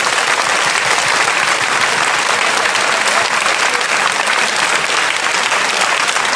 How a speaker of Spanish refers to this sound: Un aplauso para Jesús que nos invitó. És tapsoljuk meg Jézust, aki ide összegyűjtött ma minket.